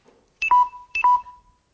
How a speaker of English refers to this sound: Dead battery. It's what you get if you've got a phone and your battery's going low, the dead battery.